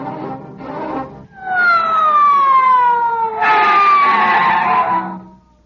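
police squad car siren

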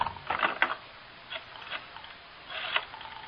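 rotary telephone being dialed

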